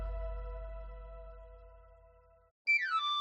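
A knife sharpener's whistle melody in a radio advertisement for El Afilador orujo liqueur from Galicia: a held harmonic tone over a low hum fades out, then after a brief pause a bright, shrill panpipe run slides quickly down the scale.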